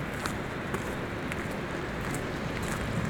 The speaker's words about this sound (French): Elle est largement grossie par les dernières pluies et la fonte des neiges. C'est alors qu'au milieu de ce silence surgit le grondement de l'eau.